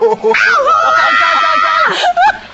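A loud, shrill scream of excitement at winning a game rings out, a sustained high-pitched wail rising and wavering for about two seconds, then a short second yelp.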